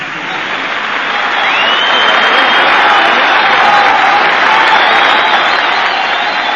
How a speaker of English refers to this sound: Listen to them beating the daylights out of their hands there.